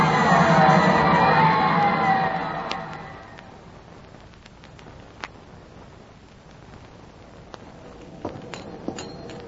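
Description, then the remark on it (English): A loud crowd roars and cheers after a boxing knockout, as the boxer Bombo goes down to the Red Terror, the noise dying down after about three seconds into a low murmur with scattered sharp clinks and clicks. “Don't get lost in this crowd.”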